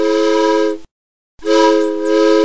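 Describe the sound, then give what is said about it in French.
Two loud, sustained steam train whistle blasts, each under a second long, separated by a brief pause of silence, with a shrill, rich tone and no talking. “J'ai bien aimé parce que le parc était grand et aussi j'ai aimé le train vapeur parce que dans le tunnel ça faisait de la fumée.”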